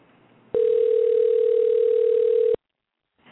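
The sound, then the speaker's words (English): A cell phone call ringing on the line: one steady, loud electronic ringback tone lasts about two seconds, then cuts to silence before faint background noise returns. “It's ringing.”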